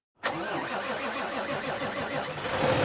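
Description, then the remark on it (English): A heavy commercial truck engine, at timber company Weyerhaeuser, running on compressed natural gas, turns over and settles into a steady, rumbling idle, with a deep diesel-like chug that grows slightly louder near the end. “While this commercial truck sounds like it has a typical diesel engine, it's actually running on compressed natural gas.”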